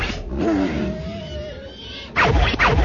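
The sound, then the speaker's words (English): A wampa creature in the snow lets out a bellowing howl, its pitch wavering and bending, then breaks into a loud, harsh, rasping roar near the end. No one speaks. “The wampas bellowed an odd howl that careened across the empty steps.”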